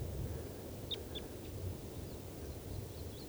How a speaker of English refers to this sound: And I think this is the female at the top of the tree that's calling.